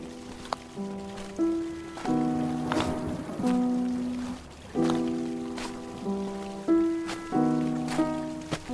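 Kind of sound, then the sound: nature, heavy rain pouring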